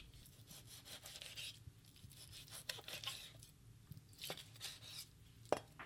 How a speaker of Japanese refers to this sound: 豚肉が焼けたら食べやすい大きさに切っていきます。